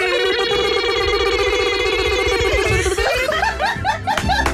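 A loud, continuous alarm tone: a steady buzzing pitch for about three seconds, then rapid warbling, rising-and-falling chirps that repeat to the end, sounding almost like synthetic laughter.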